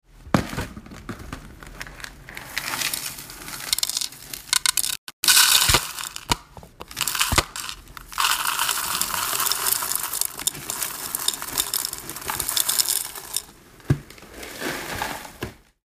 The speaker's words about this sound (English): That was the sound of me pouring cereal into a plastic bowl.